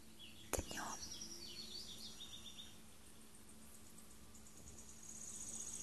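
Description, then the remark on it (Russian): Birds sing outdoors, faint, with quick chirps and trills clustered early on over a steady hiss. A single sharp knock sounds near the start, and no one speaks. “Вокруг поют птицы.”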